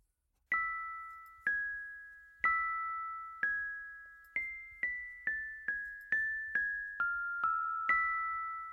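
Wind chimes ring in a slow, irregular sequence of about a dozen clear metallic strikes, each tone lingering and fading. The chimes sound fairly close and moderately loud, with no voices.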